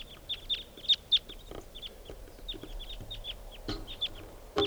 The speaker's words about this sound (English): flock of about 10 birds here, and they're all type 2s. Maybe 8 or 9 birds.